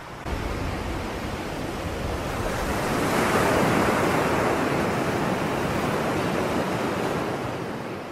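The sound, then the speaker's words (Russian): Massive tsunami waves crash in a continuous, thundering roar of churning water that swells louder midway before easing slightly, overwhelming, with no voices. “Это ведь цунами! Цунами!”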